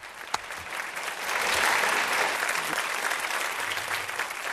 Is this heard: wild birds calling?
no